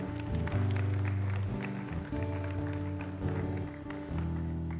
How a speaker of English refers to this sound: Will you give yourselves a round of applause? Thank you so much.